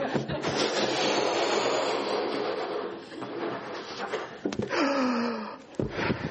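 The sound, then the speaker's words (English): Long, breathy puffs of air are blown steadily by mouth into a balloon, followed by a brief rubbery squeak and a few soft handling sounds. No one speaks. “For the purposes of the recording, I'm blowing up a balloon.”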